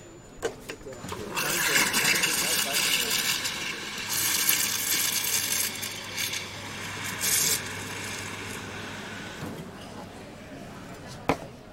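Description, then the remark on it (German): An espresso machine's steam wand heats oat milk with a loud, steady hissing roar lasting about eight seconds, surging slightly in spots over a low hum, then cutting off with a faint click. “Und jetzt mache ich gleich die Hafermilch warm”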